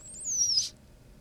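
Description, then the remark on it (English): A single thin, high-pitched squeak from a lizard in a cage, expelling air through its open mouth, recorded with the microphone about 3 inches from its head: a brief descending whistle-like tone lasting about half a second, fairly quiet over a low background hum, with no talking. “He expelled that was some squeak. Air there. That was it. That was the squeak.”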